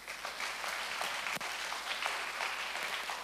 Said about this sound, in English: You can clap your hands there.